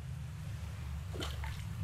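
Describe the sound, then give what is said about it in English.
A small coin thrown into a body of water below plops with a brief splash, followed by a fainter second splash as a second coin is thrown, heard over a steady low rumble. “That's two coins that I've just thrown in there.”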